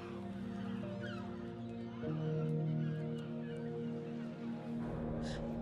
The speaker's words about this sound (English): To her on the beach. There were seagulls.